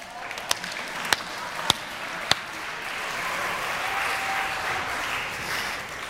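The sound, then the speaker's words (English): An audience bursts into sustained applause and cheering for people coming up front for a five-minute cooking challenge, opening with a few sharp, distinct claps before settling into a steady wash of clapping. “You're going to have to cheer them on because you saw how timid they were to be up front.”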